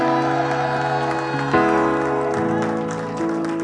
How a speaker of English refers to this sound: Thank you. Thank you. But can we give Jesus a big round of applause here?